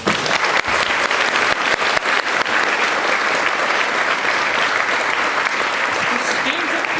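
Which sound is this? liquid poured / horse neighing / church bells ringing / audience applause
audience applause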